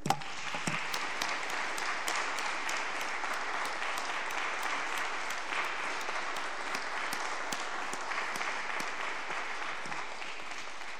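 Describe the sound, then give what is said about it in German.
Steady applause from an audience for singing, many hands clapping densely and evenly for about eleven seconds, at a constant level with no talking over it. “Ihr habt echt sehr schön gesungen und das ist ein Applaus wert.”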